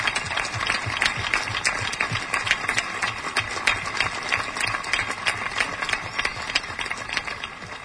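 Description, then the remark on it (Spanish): A crowd applauds steadily, a dense, loud patter of many hands clapping at once that holds an even intensity for the whole stretch, with no voices standing out. “Para vosotros y para el sector que representáis, yo os pido este fuerte aplauso también.”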